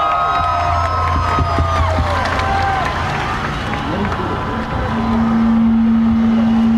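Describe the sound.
A large crowd claps and cheers loudly and steadily, with whistles and a sustained horn-like tone sounding through the dense roar of hands and voices.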